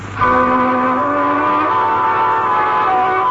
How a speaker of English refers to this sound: You drive away, park your car out of sight around the corner